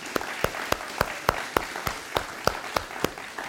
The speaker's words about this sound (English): And so, you know, I just sense a welling up of a hand, sort of a round of applause for our brother and sisters. Would that be all right? That'd be okay?